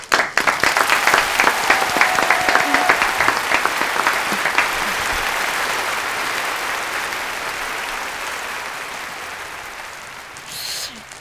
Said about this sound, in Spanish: Te damos un aplauso.